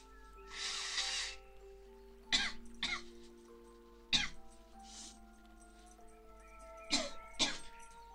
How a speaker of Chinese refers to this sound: 现在感冒咳嗽有点严重，所以挺不好意思的，就老是不好那个啥，老是不播，就其实不是我不想播，是我真的太难受了，你知道吗？我就不能说话，说话嗓子就痒。